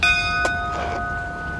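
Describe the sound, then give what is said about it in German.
An old door bell at a convent of the Order of the Immaculate Conception rings with a steady, sustained metallic tone, with a couple of brief clunks partway through and no voices. “Los, klingeln.”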